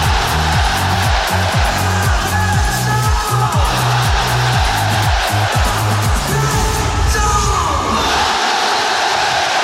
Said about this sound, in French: Il fait un signe aux tribunes, Alexandre Lacazette. Et son nom va être dit par le speaker. Et derrière, vous allez évidemment entendre les supporters lyonnais crier le nom d'Alexandre.